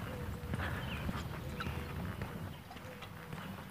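A distant military helicopter drones steadily, its low rotor thumping rolling through a broad outdoor rumble without pause, with no voices present.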